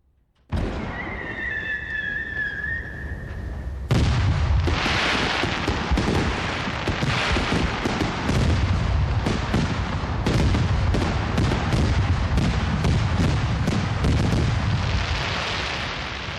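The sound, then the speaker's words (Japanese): A high whistle streaks up, then fireworks, including heart-shaped ones, erupt at a fireworks festival in a loud, dense barrage of booms and crackling bursts that rolls on without pause, with no voices heard. “あのハート型の花火、綺麗だったね。”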